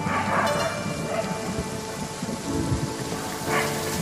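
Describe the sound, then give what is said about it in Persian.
Steady heavy rain pours down at night in a dense, continuous hiss, with a low rumble of thunder underneath. No voices are heard. “شب و بارون شدیدی میباره.”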